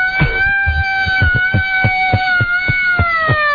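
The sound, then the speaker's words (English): An old-time General Electric Company hand-crank civil defense siren, Chicago issue, being cranked by hand, holds a loud, steady wailing tone that slowly sinks in pitch, with a rhythmic low mechanical thumping pulsing underneath. No one speaks. “It's an actual General Electric Company Chicago issue real old-time siren.”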